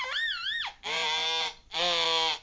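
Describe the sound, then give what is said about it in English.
A child's high voice imitates a police siren, starting with a quick warbling wail and then two long, loud, sustained siren-like cries, with no other talking. “Okay, I'm driving the police car. You have to make the noise.”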